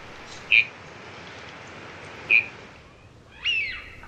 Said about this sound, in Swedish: Snatterandens hane är betydligt råare. Lätet har lite halvfnäsar-karaktär och så finns det en raspande ton i det hela, så som det låter om rytminstrumentet gurka ungefär.